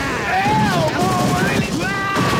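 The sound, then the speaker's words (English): A voice imitates a riot gun firing on full auto into store shelves of Twinkies and bags of Fritos, a steady stream of rapid, rattling bursts with gliding, whistling tones over it, loud and continuous for a couple of seconds. “You've blown away Twinkies off the shelves, holes in bags of Fritos.”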